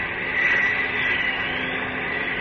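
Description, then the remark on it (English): A steady, airy drone of an airplane overhead and coming toward the listener, holding an even, continuous roar for the whole moment with no one speaking. “Yes, that does sound like a plane. Above me and coming this way.”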